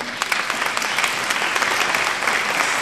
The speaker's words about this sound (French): qu'on peut applaudir.